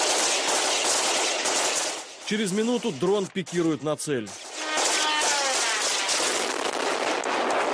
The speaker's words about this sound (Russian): Вот уже при свете дня беспилотники пытаются сбить автоматными очередями сотрудники киевской полиции.